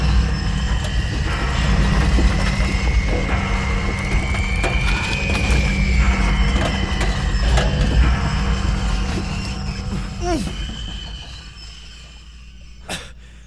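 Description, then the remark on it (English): A heavy, steady rumbling of a train ride with rattling, mechanical clatter and a long high metallic screech, then a few sharp clanks and a final jolt as the roar fades. “And then the train. Brace yourself, Juno. It hit us like, well, a freight train.”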